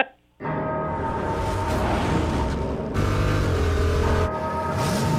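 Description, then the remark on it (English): A loud Dodge Charger car engine, from a commercial, roars to life after a brief silence and keeps rumbling and revving steadily for several seconds, with a dense, throaty tone and no voices. “That's Vin Diesel, just car sounds.”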